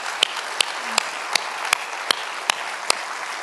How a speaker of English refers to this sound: I would tell you, we are blessed beyond measure, and that merits a round of applause for Almighty God. Don't you think so?